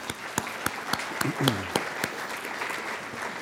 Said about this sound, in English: And so if we give a round of applause for all those that help sponsor this, it'd be great.